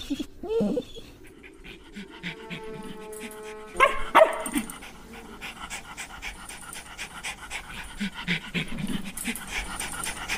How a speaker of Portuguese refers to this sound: que imediatamente começou a latir desesperada.